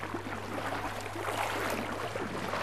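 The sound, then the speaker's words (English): A boat's steady engine drone hums beneath a constant wash of water and wind noise, fairly loud and unbroken, with no voices, as the boat pulls into a shallow bay at Orpheus Island, north of Townsville in far north Queensland, after a 45-minute trip out to sea. “After a two-hour drive north of Townsville in far north Queensland and a 45-minute boat trip out to sea, we pull into a shallow bay that's home to one of the world's premier coral research stations.”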